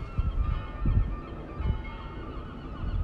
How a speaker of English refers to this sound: And of course, you can hear in the background the Netherlands national bird, the seagull.